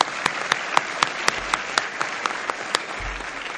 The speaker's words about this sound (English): And first off, I would like to personally welcome my family, friends, faculty, staff, and most importantly, the class of 2018 to this year's HCA's fourth annual graduation ceremony. Can I get a round of applause for everybody else?